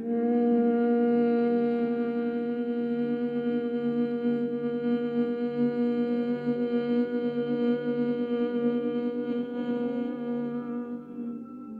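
A low, steady hum held on one long exhale for about twelve seconds, several voices blending into a single drone that stays even and fades slightly at the end. No talking.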